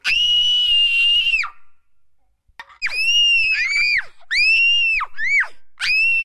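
Loud, piercing shrieks close by: one long sustained scream, a brief silence, then a rapid series of shorter shrill screams, each trailing off with a downward break.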